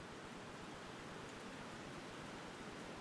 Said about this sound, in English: Is that rain? That's rain. That wasn't supposed to happen today. It was supposed to be 74 and sunny.